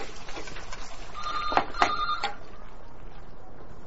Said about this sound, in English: Phone rings when the wife's making tea.